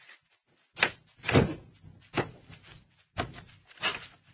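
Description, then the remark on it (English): A door is handled and pushed open, with a series of wooden clunks, rattles and thumps spread over a few seconds, with no talking. “Open the door.”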